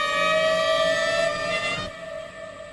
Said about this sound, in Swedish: Runt om de bullrar Mexico Citys kaotiska trafik.